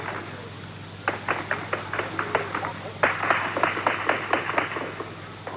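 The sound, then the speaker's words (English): Gunfire rings out around a city square in Port-au-Prince in rapid, sharp cracks as a peaceful anti-Avril demonstration against the government is cleared. One burst of shots starts after a second, then a louder, denser volley follows, all over a steady low hum. “To clear them, and there's gunfire all around the square.”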